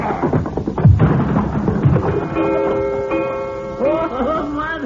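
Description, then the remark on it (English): A loud heavy thud of a coyote, hit hard by a fist, slamming into a wall, then a knocked-down clock clattering down and ringing out in sustained, wobbling chime tones, cartoon-style. “You hit that coyote so hard, he bang up against the wall and he knocked the clock down.”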